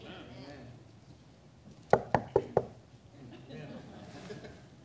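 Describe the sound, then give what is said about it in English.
Four quick, sharp knocks on wood in a steady rhythm, fairly loud, over a low background murmur. “Knock on wood.”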